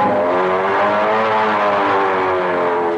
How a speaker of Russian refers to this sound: Гудит мотор, хороший есть вечер, в лицо струит воздушная волна.